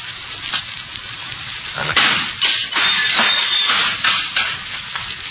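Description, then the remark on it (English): Glass in the top half of a window is knocked in and smashed in a few sharp, crunching bursts, with brittle crackling and tinkling in between. No one speaks over the noise. “Let's see if I can knock a hole in the top half of the window here.”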